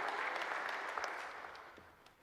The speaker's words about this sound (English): Everyone, round of applause for King Saul. Well done, King Saul.